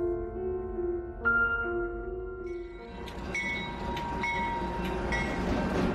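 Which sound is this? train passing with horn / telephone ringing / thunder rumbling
train passing with horn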